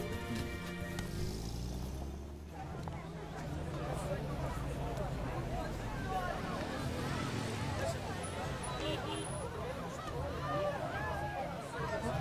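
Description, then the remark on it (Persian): A dense crowd gathered in the street murmurs and chatters continuously outdoors, many overlapping voices forming a loud, steady hubbub, with a low engine rumble underneath at the start. “عمرم بشه ماشین رو از این جمعیت رد کرد.”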